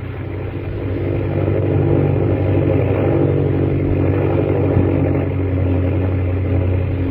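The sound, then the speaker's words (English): A low-flying airplane engine drones loudly and steadily over canyons, a deep, throbbing hum with a constant pitch that holds for the whole stretch, with no voices over it. “Jack, fly as low as you can.”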